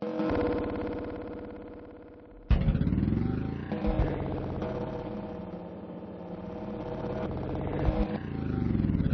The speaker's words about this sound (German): Jetzt ist der Nebel dichter. Ich muss langsam fahren, aber das Auto geht sowieso nicht schnell. Es ist alt, dauernd muss man was richten. Laut ist es auch